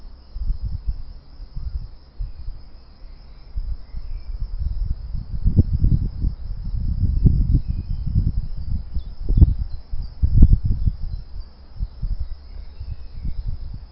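Wind gusts and whistles at the ears in uneven, rumbling surges that swell and fade throughout, outdoors in spring, while a steady, thin high-pitched insect trill runs continuously underneath. No one speaks.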